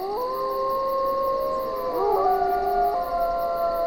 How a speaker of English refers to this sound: If you think of Yellowstone, you know, you've got those bubbling mud pools from geothermal activity. You've got packs of wolves which howl.